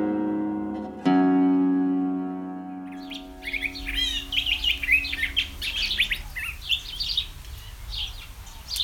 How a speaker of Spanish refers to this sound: Cuitlacoche pico curvo, cuitlacoche, pitacoche, de nombre científico Toxostoma curvirostre, pertenece al orden de los paseriformes y a la familia Mimidae. Esta especie llega a medir de los 25 a los 28 centímetros de largo.